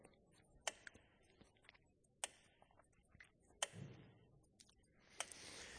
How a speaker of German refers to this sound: Und damit zeigt die Turmuhr und auch dieses Metronom ein wichtiges Lebensprinzip.